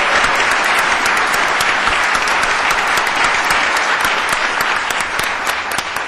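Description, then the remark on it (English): Sustained applause from a large audience, a dense wash of overlapping hand claps at steady loudness throughout, with no voices standing out above it. “Your hands are going to wear out, I'm telling you. You keep applauding like that.”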